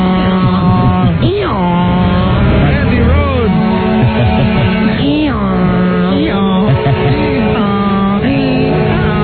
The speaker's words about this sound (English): The actual sound of the trucks today in Washington, this time only about 150 of them came to town.